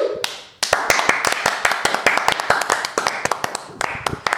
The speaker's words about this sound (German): Applaus!